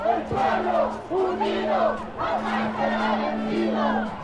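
A large crowd of illegal immigrants and their supporters chants in unison while marching in the streets, voices rising and falling in rhythmic waves over a steady murmur, loud and continuous with a repeated cadence like a marching protest.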